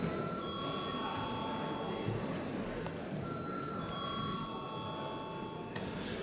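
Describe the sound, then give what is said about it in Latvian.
A parliament chamber bell rings steadily for about six seconds before a secret vote on appointing a judge to the Riga city centre district court, a sustained high electric tone over a wash of low murmur, briefly wavering midway before carrying on. “Paldies, lūdzu, zvanu.”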